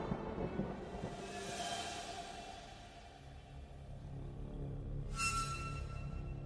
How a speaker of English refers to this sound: With a deep clap of thunder, Babhorn disappeared.